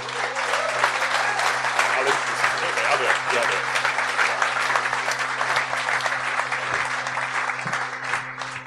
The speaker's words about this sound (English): But for now, please, a round of applause for our panel.